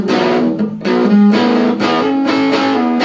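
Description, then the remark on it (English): An electric guitar on the treble pickup plays a short band-like rock riff of chunky, repeated chords with a mild, crunchy, not very high-gain distortion, fairly loud, with no voices over it. “It has that kind of a, it's not a real super gainy type of distortion, but it's got a nice sound.”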